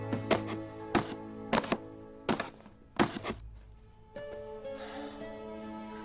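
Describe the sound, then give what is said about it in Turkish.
A pen jabs holes through the closed lid of a small cardboard box in a series of sharp, hollow thunks, several in quick pairs, fairly loud over a steady tonal background hum. “Kolinin kapağını kapatan Dev kapağın üzerine kalem yardımıyla delikler açıyor.”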